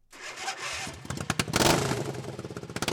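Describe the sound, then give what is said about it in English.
A racing lawnmower engine revs hard at the lawnmower racing halftime feature of the Buckeye Demolition Derby. Its raspy buzz rises and pulses with rapid throttle bursts, a loud rough mechanical whine with clattering texture and no voices. “And between the smashing and crashing of cars is the halftime feature, lawnmower racing.”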